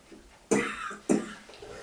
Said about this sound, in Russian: Покашлять мы тоже можем от этого.